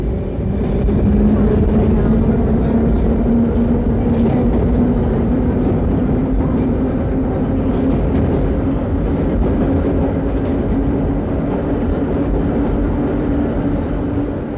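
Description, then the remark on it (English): A subway train, many tons of metal, roars steadily over steel tracks through an enclosed, reverberant tunnel, a loud, deafening continuous rumble of steel wheels on track with a droning tone that slowly rises, filling the whole stretch without a break. “The sound of the running subway train, many, many tons of metal, running over steel tracks in an enclosed, reverberant tunnel, can be deafening.”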